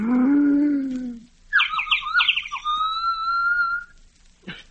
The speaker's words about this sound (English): First, the call of the loon to its mate echoing across the lake at eventide.